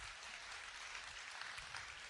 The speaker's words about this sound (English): Only a few claps.